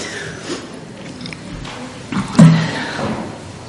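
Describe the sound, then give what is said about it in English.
Heavy middle church doors are swung shut by ushers with one muffled thud, following soft creaks and shuffling amid echoing low background murmur. “So can I have the ushers close those middle doors, please?”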